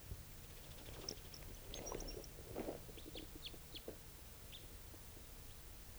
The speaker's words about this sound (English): Bird just flew a long distance, sort of giving a soft song in flight. I don't know if it's interested in the decoys.